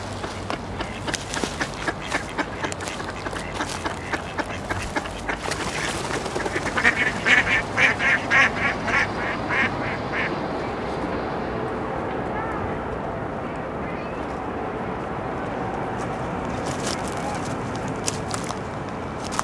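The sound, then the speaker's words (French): Ducks quack at a small pond in quick repeated bursts, a busy rhythmic series that peaks midway, then dies away, leaving a steady outdoor hum of water and breeze. “Corbeau, canard.”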